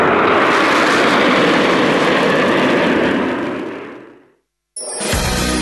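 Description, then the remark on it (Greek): A loud, broad roar of six Rafale fighter jets for the Greek air force passing overhead across the sky of Attica, Greece, before landing at an air base, steady for several seconds before fading away; after a brief silence, another burst of jet noise cuts in abruptly. “Τα 6 υπερσύγχρονα αεροσκάφη διέσχισαν τον Αττικό ουρανό και προσγειώθηκαν στην αεροπορική βάση”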